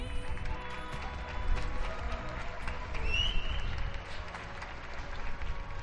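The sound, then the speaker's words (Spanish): Steady applause from many neighbours clapping and cheering from balconies in Madrid, with scattered voices and a brief whistle mixed into the continuous clatter. “En Madrid, han comenzado los aplausos,”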